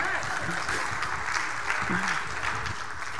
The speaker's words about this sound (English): Can you clap for them? They just won a prize.